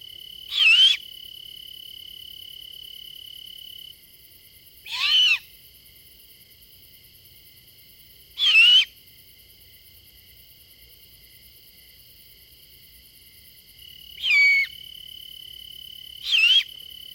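A young great horned owl gives five loud, harsh screeching whistles at irregular intervals, each a short rasping burst, over a faint, steady high insect-like drone.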